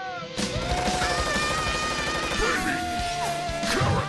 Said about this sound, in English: The ads are full of fast-paced adventure. In this ad, carrots shoot from a cannon.